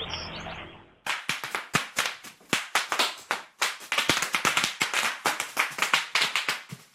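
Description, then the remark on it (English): A 7-year-old boy runs on 18 feet of bubble wrap, popping it: a dense, irregular barrage of sharp, loud cracks and snaps, continuing for several seconds after a brief quiet lead-in. “Came with 18 feet of bubble wrap”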